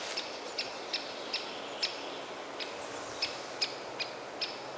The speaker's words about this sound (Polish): Dzięcioł duży, to on tak nawołuje, jest poddenerwowany, no to jest czas ustalania